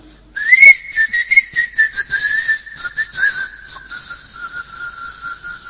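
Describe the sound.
A person whistles a sustained, wavering tune with no talking, the pitch gliding and pulsing steadily for several seconds before softening slightly toward the end.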